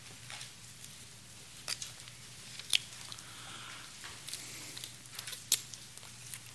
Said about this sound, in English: I'm going to wait until all the paper shuffling, all right, subsides.